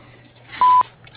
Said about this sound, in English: If you leave your name, number, and a short message after the beep, I'll call you back as soon as I can.